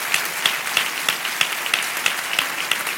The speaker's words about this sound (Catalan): Així que un aplaudiment per a tots els que han presentat treballs en aquest festival.